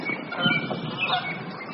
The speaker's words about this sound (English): A big woodpecker sounds, and then a flight of geese.